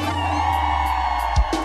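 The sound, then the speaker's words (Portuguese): A large concert crowd in Goiânia roars and cheers together in a loud, sustained wall of voices, with scattered whoops rising above the din for nearly two seconds. “Pra finalizar, cadê o grito de Goiânia?”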